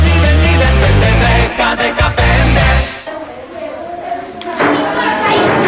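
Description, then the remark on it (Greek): A loud, tonal musical passage ends abruptly, giving way to a busy classroom of children chattering and calling out at once, a steady noisy babble of many young voices. “Έλα ησυχία στην τάξη. Συγκεντρωθείτε παρακαλώ.”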